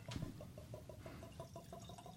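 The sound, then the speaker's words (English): Ardbeg Drum whisky glugs from a bottle into a glass in a quick, steady series of hollow gurgles, fairly quiet, opening with a brief clink. No one speaks. “Well, I'm pouring while you're looking.”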